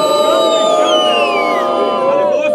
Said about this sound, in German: Ja, genau, Beifall.